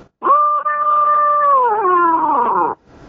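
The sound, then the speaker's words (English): A squall blown on a predator call: one loud, drawn-out wail lasting over two seconds, holding a steady, reedy pitch before sagging and wavering toward the end, with no voices. “And then every now and then you put a real light, you can make a squall.”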